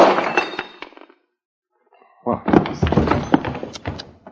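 A bottle thuds against a woman, knocking her out, followed by a brief silence and then a second, longer burst of dull thumping and glassy clinking, loud and cluttered, with no voices.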